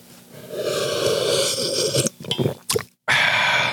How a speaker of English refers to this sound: One of the things that we always talk about here is when I sip my coffee, I sip it really loud. And I do that on purpose.